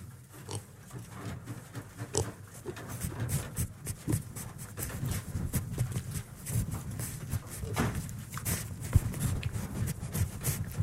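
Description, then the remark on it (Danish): Piglets snuffle and grunt, with repeated sharp rustling and knocking bursts as they nibble at the microphone and its windshield, over a steady low rumble. “Ja, de er ved at spise mikrofonen her.”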